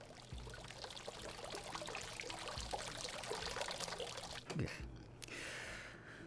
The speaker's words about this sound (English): And in the place of all this nature were hundreds and hundreds of fountains, all running and splashing warm water out of their cherubic mouths.